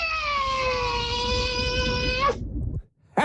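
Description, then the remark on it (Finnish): A person imitates a hawk during an animal karaoke game, with one long, steady, high-pitched screech lasting about two seconds. It flicks downward at the very end, carried over a low rumbling background before falling quiet. “aivan mahtava haukka ja kuuntele.”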